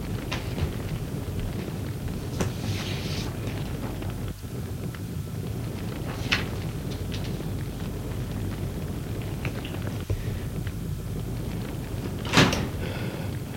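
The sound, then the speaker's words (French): A bedroom door opens as a man enters, with a few short clunks and scrapes spaced out over several seconds, against a steady low rumble of room noise; a sharper thud comes near the end. No one speaks. “Laurent est entré. Marie sursaute. Jean le suit.”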